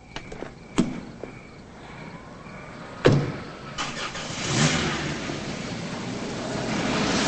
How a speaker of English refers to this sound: She drives away.